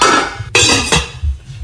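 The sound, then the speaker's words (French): Pots and pans clatter loudly in a kitchen, a continuous metallic clanking punctuated by two sharp crashes, with no voices present. “Oui, c'est des bruits de cuisine ou de casserole, de poêle.”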